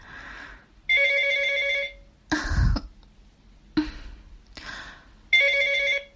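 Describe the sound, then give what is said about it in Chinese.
A phone's electronic ringtone chimes in two bright, repeating bursts for an incoming call from a woman's husband, separated by short noisy thumps and rustling; no one speaks. “为什么等我老公真打过来了又不让我接了？别闹，赶紧把电话拿过来。”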